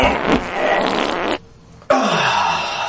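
A loud, close fart, a long raspy blast that cuts off briefly and then returns for a second drawn-out burst, with no talking.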